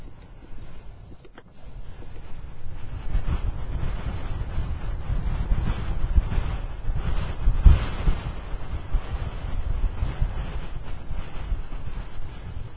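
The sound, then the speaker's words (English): Steady, strong wind roars and buffets continuously through a window opened just a crack, a dense rushing noise with gusty swells, fairly loud. No voices are heard. “That's pretty windy.”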